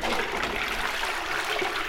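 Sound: toilet flushing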